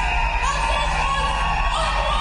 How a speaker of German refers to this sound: Und die Leute, wie sie schreien. Ja, so ungefähr war das. Es war ganz gemischt.